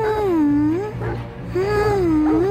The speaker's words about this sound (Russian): Малыш, не плачь, пожалуйста. Сейчас тебя вывезут подальше. Там ты можешь проснуться и кричи, сколько вздумается.